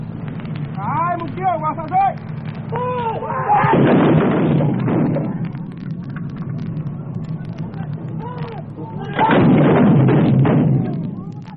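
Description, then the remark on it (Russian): A patriot artillery battery fires at the enemy in two heavy, roaring bursts, each lasting a couple of seconds, with voices calling out before and between the salvos over a low, steady hum; a documentary recording made in the fighting jungle. “Батарея патриотов ведет огонь по врагу.”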